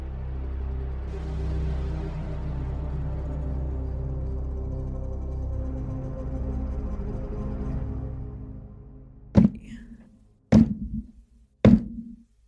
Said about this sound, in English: There's a knock at the door. Come in. Two guards open the door, and there is a 70-year-old man with wild natural hair and a shock white streak running through it, and an old banjo.